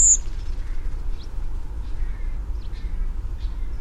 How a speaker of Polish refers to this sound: Do tej grupy należą m.in. drozdy, choć niekiedy niektóre kontynuują wędrówkę również w ciągu dnia. Typowym gatunkiem drozda migrującego nocą jest droździk.